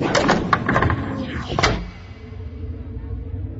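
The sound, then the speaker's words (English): An office door swings shut with a clattering rush and a solid thud, followed by a few seconds of quiet room tone as the sound fades away. “The door closed.”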